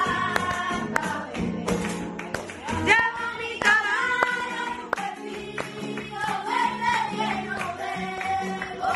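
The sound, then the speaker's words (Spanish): Sharp flamenco palmas clapped by children, mostly Gitano, who are learning flamenco crack out in an uneven, syncopated pattern, cutting through the children's singing and chattering, with the claps fairly loud and punchy against the steady vocal background. “Mientras ellos cantan, bailan, aprenden a tocar las palmas con arte, ellas se dignifican con un oficio.”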